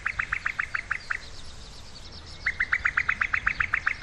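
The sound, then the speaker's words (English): A female cuckoo's rapid bubbling call, two bursts of quick repeated notes separated by a short pause, loud with no other voices. “Recent studies have revealed that while potential host birds such as reed warblers and meadow pipits completely ignore the song of the male cuckoo, they simply don't register it as a threat, they react sharply to the sound made by a female.”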